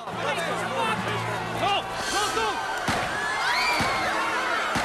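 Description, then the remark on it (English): A sharp, sudden shot from a small silver handgun, fired at a man at point-blank range, cracks out over a busy crowd, with overlapping voices and hubbub continuing around the single loud bang. “Three shots hit him at point-blank range and he drops to the ground.”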